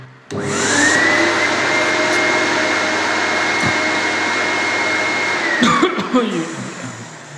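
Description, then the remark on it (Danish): A person who works as a floor sander imitates a vacuum cleaner with their voice, a skill learned on the job: a loud, steady whooshing drone with a high whine that holds for about five seconds, then sputters out with some breathy clicks. “Jeg er gulvslibe, og jeg har i min tid på arbejde her lært at sige nøjagtigt som en støvsuger.”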